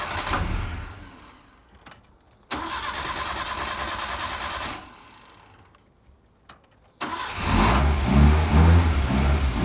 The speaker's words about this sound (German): Aber jetzt wirft Ex-Schuldirektor Budimir den Motor wieder an.